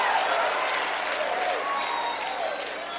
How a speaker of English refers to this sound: Come on, clap your hands. It's the truth.